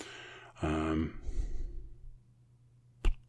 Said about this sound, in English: Can you hear my dog snoring? It's hilarious.